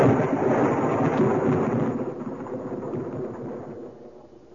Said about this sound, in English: There is one who brings this storm at his will, summons and directs it.